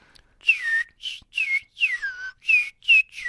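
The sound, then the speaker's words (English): A person whistles a quick, tuneless string of about seven short, sliding notes, each dipping downward like a chirpy bird call, heard clearly and alone with brief gaps between. “I always tell my son, if you want to imitate a bird call, you have to have the ability to whistle a tune that makes absolutely no sense at all.”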